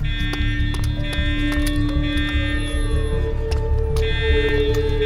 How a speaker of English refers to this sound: That fucking alarm.